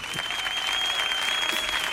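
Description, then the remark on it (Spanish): Steady audience applause fills the whole stretch, a dense wash of many hands clapping at even loudness, with a sustained high tone running underneath. “Fuerte también el aplauso para Miguel Benítez, allá donde esté, que está con nosotros esta noche.”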